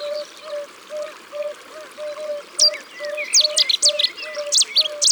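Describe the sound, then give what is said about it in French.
A Cetti's warbler, a small warbler, bursts into loud, explosive song, a rapid run of sharp notes halfway through, over trickling water and a steady, evenly repeated low piping call. “C'est une petite fauvette au chant particulièrement puissant pour sa taille.”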